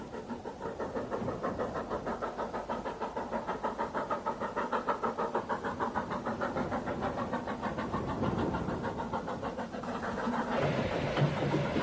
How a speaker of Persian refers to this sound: اکنون دوباره در خارج هستیم و می توانید دهانه تونل را که مدتی قبل از آن داخل شده بودیم ببینید. در این مسیر قطار به تدریج از کوهستان می گذرد.